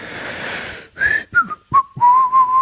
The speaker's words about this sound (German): Du pfeifst jetzt.